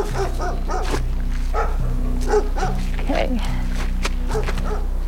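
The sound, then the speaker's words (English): A few reservation dogs give a series of short, excited barks and yips, greeting visitors on a creaky porch, scattered over a few seconds while people talk and a steady low hum runs underneath. “A few res dogs greet them on the creaky porch.”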